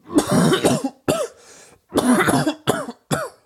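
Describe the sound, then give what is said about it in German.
A person coughs repeatedly and loudly in several harsh bursts with short breaths between them, no talking. “Wenn der Öffentlichkeit hustet, zieht schnell alle Blicke auf sich.”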